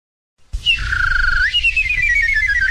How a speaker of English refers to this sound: Listen to the kissing bird. Listen to the kissing bird.